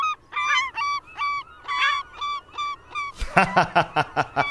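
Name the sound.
seagulls calling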